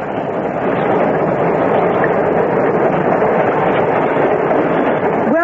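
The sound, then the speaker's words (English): A train on its way to London rushes past, a loud, steady roar of wheels and rumbling carriages that fills the whole stretch without a break, with no voices. “Listen, a train's coming. There it is, on its way to London.”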